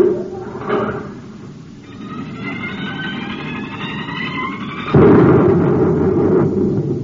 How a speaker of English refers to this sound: What's the noise? You blasted the top off the crater. The volcano. It's erupting.